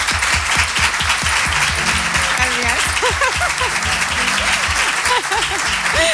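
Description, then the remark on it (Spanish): A live audience at the Caja Rural, at a COPE radio broadcast, breaks into sustained, dense applause for history teacher Ana Velasco, with a few voices and a faint cheer or whistle rising through the clapping. “Lo hacemos con la mejor profesora de historia de España, que me gustaría que aquí en la Caja Rural le diesen un aplauso a Ana Velasco, por favor.”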